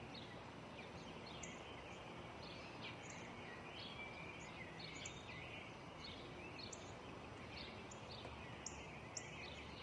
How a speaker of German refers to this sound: Was ist das? Ein Spatz.